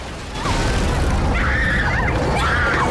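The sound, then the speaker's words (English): A massive tail slams down onto a bridge with a loud, heavy crash. Sustained rumbling and crumbling follow as part of the bridge breaks and collapses, while wavering high-pitched cries rise over the din as people rush away. “Something like a massive tail comes crashing down onto the bridge where Jason is.”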